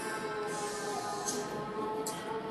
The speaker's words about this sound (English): They have some, I'm in a mall, as I said, and they had some electric train loaded with little kids driving around playing music, so I wanted that to pass.